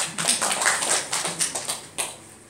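A church audience claps for a person during a sermon, a dense patter of overlapping hand claps lasting a couple of seconds with a few sharper accents, fading slightly at the end. No one speaks.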